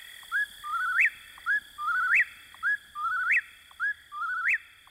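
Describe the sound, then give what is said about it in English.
An eastern whip-poor-will calls its rhythmic, whistled three-note song four times in quick succession, clear, over a steady high insect-like drone in the background. “It remains, as Thoreau described, a bird of the night side of the woods, where you may hear the whippoorwill in your dreams.”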